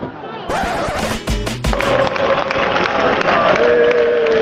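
A football stadium crowd at a Fuenlabrada match against Malaga, with Malaga away supporters present, roars and cheers continuously, loud and dense, with a few sharp banging thuds early on and sustained chanting voices rising over the din.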